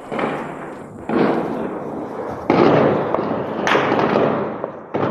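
Heavy gunfire heard from indoors, dull and muffled, rolling on continuously with several sharp new bursts cutting in every second or so. There is no talking.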